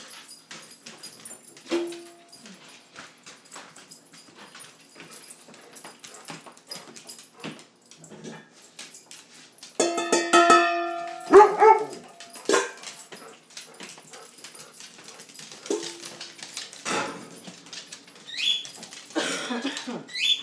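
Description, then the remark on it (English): A dog whimpers and barks excitedly at a feeding, with no talking: thin, high whines build to a loud burst of yelps and short barks midway, over steady scratchy clicking and shuffling throughout. “Okay, now you're going to get a proper dog feeding.”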